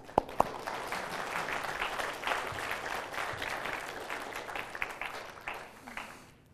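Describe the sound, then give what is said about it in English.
An audience applauds steadily for several seconds, a dense wash of many hands clapping at an even level, opening with a couple of sharp individual claps and fading at the end. “Give him a hand.”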